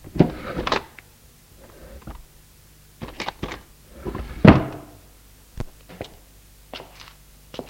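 A dresser drawer is handled in a bedroom as a black veil is put away in it: scattered wooden knocks and clicks, a rough scraping slide midway, then a few sharp bumps as it shuts. Moderately loud, with no voices.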